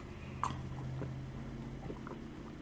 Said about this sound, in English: So, Yoko, let me have a sip. Bear with me 1 second.